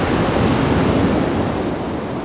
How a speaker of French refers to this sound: Le claquement des vagues. Couleur vert et morote. Sur un fond turquoise. Le claquement des vagues.